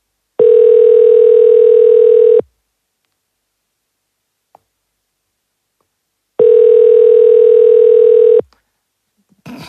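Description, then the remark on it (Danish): A telephone ringback tone on a call to Energistyrelsen, the Danish Energy Agency: two steady, mid-pitched buzzing rings, each about two seconds long, separated by a long silence, with a faint click at the very end. “lyder ikke, som om der er telefonkø.”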